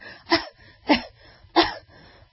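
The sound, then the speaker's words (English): A voice imitates a woman's cough: three short, voiced coughs spaced about half a second apart, each with a slightly tonal, high-pitched edge, performed alone without other talk. “So when women cough, they do this.”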